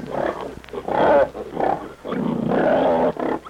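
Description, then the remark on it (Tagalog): Pigs wallowing in a mud wallow grunt and snort in a run of loud, rough bursts, some drawn out into throaty squeals, with only brief pauses between them and no talking. “Aray buhay nakagisanda iisarang turubugan nga may mga ibang baboy nga nagaturubog duto.”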